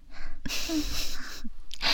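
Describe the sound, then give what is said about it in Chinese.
A person imitates a cat's purr with a raspy, breathy rumble: one long sustained stretch, a brief pause, then a shorter second burst. “对了，小猫咪舒服的时候是会发出什么样的声音啊？ 是呼噜声。”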